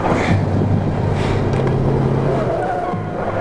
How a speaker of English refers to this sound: He turns his car around. The dusty black pickup arrives and blocks his way.